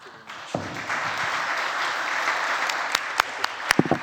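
A crowd breaks into steady applause for the panelists at the end of a session, a dense wash of clapping that holds at a fairly even level, with a few sharper individual claps popping out toward the end.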